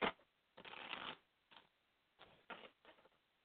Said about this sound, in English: Shuffle. Get the cards mixed up again a little bit.